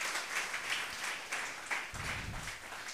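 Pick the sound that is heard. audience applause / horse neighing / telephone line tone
audience applause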